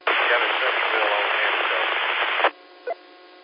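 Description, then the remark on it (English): A loud, hissy ham radio transmission crackles with white-noise static and muffled, tinny voice for a couple of seconds, then cuts off sharply, leaving a faint hum and one brief blip. “Okay, there were some waves in there that blanked you out a little bit, so that changed a little bit.”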